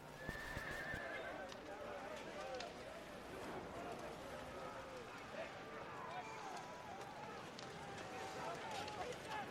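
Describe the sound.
Several horses whinny and snort amid a steady clatter of hooves on hard ground, a busy, continuous scene with faint indistinct voices mixed in the background.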